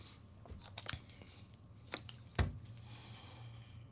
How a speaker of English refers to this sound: Let me take some water, because y'all ain't gonna like that.